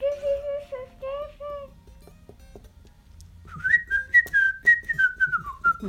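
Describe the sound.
A short whistled signal tune of a helpers' squad, whistled by one member calling for help: a few clear, steady notes, a pause, then a brighter rising phrase of sustained whistled tones, fairly loud with no talking.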